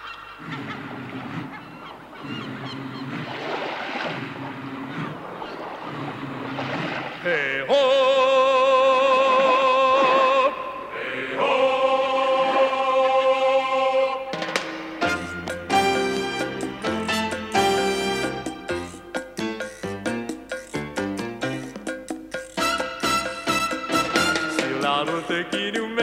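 A loud, upbeat song plays alone, opening softly, then blaring honk-like tones that sound like a goose, before a driving rhythm with punchy percussion kicks in.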